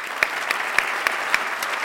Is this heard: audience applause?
yes